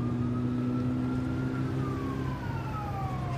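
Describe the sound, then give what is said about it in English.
An approaching police car's siren wails with a steady, sliding tone over a low engine rumble, sustained and fairly prominent throughout, with no voices present. “Oh, cops coming!”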